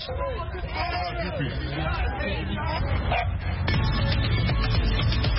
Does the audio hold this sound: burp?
no